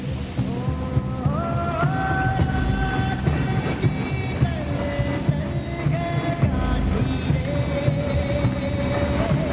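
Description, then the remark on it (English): A train rolls into a station with a steady, heavy rumble and high metallic squeals that slide and waver in pitch. It stays loud throughout, with no voices. “train rolls into the station.”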